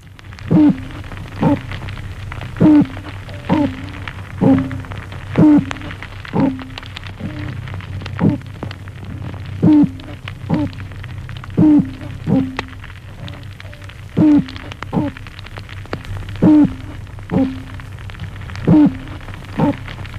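Toadfish calls, made by the swim bladder of this small sea-floor fish: a steady series of about twenty short, low, buzzy bark-and-hoot pulses, roughly one per second, standing out over a constant low underwater rumble and hiss.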